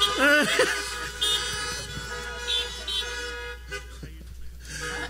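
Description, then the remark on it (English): Many car horns honk at once in an overlapping, sustained chorus, with short toots and longer blasts from several vehicles, some loud, continuing for several seconds, as an audience in their cars honks to greet each other during a morning church service. “So give each other a big honk in Jesus' name this morning.”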